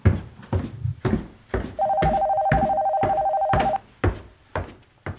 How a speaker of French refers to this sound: La petite fille joue calmement quelques minutes jusqu'à ce qu'elle entende le téléphone sonner et descende dans la salle à manger pour y répondre.